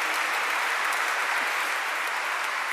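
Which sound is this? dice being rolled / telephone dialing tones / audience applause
audience applause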